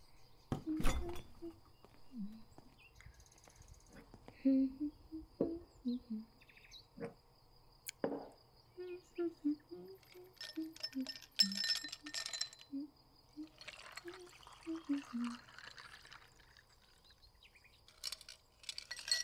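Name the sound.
glasses clinking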